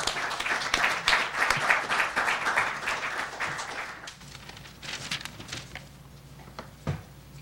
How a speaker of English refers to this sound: With that, I think we're ready to begin. Let's welcome our speakers with a round of applause and then get started.